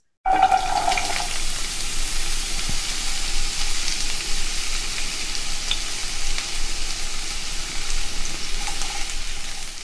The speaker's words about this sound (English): Sizzle it. Sizzle, sizzle, sizzle.